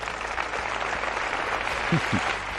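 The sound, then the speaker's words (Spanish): Sustained crowd applause after a political speech line about the Socialist Party (Partido Socialista), a dense, steady wash of many hands clapping at an even level throughout, with a brief murmur of a voice near the end. “¿Y por qué aplaude?”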